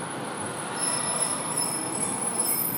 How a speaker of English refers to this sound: So it's green, and the tram is stopping.